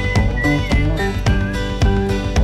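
A high, clear whistled melody rides over a full band, with steady drum hits and strummed guitar underneath. The whistling sits fairly forward in the mix, with no voices.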